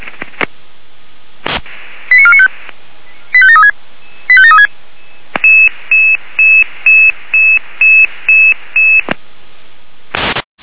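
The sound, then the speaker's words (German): Fire brigade alerting tones over a radio channel, alerting the Iserstedt fire brigade: three short warbling tone bursts, then a rapid series of about ten evenly spaced steady beeps, bracketed by bursts of static. “Feuerwehrland mit Alarmierung.”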